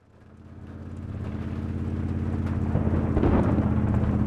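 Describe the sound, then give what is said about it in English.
Steady rainfall hisses beneath a deep, continuous rumble of thunder that swells gradually louder over a few seconds on a rainy night, with no voices present. “It was a rainy night”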